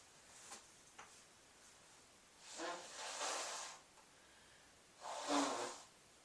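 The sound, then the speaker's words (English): A couple of faint clicks, then two forceful nasal blows or snorts, each lasting about a second with a breathy, hissing rush, with no talking, from a person who is getting sick and sneezing, trying to clear their nose. “I know that was gross, but I had to try to get it out of my nose because I'm just sneezing.”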